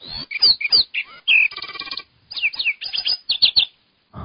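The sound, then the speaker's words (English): A rapid, complex bird song of sharp chirps, whistles and buzzy trills, loud, played at normal speed and delivered in quick bursts with short pauses and no voices. “Again, at normal speed, this is the same bird.”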